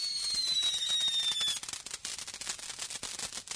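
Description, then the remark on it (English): Fireworks going off: a high, shrill whistle slides slowly downward in pitch over a dense hiss, then gives way to a rapid, irregular string of sharp crackling pops with no voices. “I wonder if the people down in the street in traffic can see this.”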